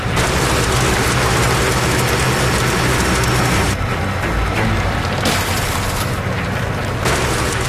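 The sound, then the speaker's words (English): Low, rumbling booms and scattered crackling from the frozen ice of Utic Lake at an ice crossing, heard under a constant loud drone of heavy engine noise from a rock truck on the ice, with no talking. “This whole lake is shifting. Way too much noise.”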